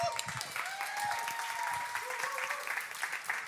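An audience applauds steadily, a dense wash of many hands clapping at an even level throughout, with faint tonal sounds drifting through the noise.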